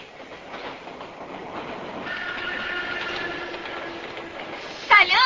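A train rolls past on the rails with a steady rumbling clatter and thin metallic squealing tones, building to a louder, sharper burst of noise in the final moments.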